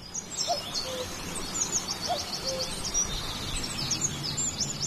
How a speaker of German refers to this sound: Müssen wir alle einmal ganz ruhig sein? Das sind nämlich die Vögel, die hier ganz fantastisch singen.